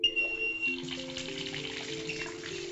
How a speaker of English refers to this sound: You're listening to a bathtub being filled with lukewarm water.